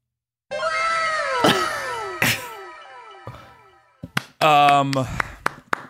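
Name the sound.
hand claps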